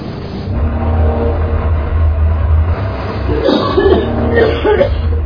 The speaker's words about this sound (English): What is it? It's bad. They're coughing? Yeah, they're coughing.